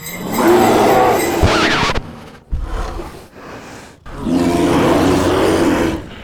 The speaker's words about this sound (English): Who let that tame polar bear on the set?